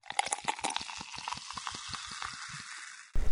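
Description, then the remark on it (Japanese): Carbonated liquid fizzing in the ear as it is used to clean the ear: a dense, crackling hiss peppered with quick irregular pops and ticks, steady for about three seconds before a brief louder rumble at the end. “お耳の中シュワシュワしてるのかな？”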